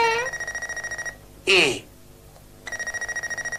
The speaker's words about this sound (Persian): الان تلفن زنگ میزند و آقای رئیس بهش میگوید که او میتواند از فردا به سر کار برود.